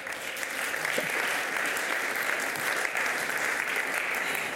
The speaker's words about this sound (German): Ich finde, sie hat einen Applaus verdient, oder?